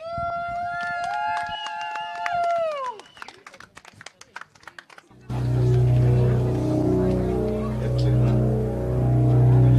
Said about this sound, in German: Und dementsprechend sagen wir jetzt, Bühne frei für das Pothole Rodeo Auto.